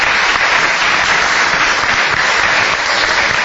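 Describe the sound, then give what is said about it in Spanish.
Sustained applause from a crowd for a newborn baby boy, a dense, steady wash of many hands clapping at once, loud and unbroken for the whole stretch with no voices rising above it. “Un aplauso para Tomasito.”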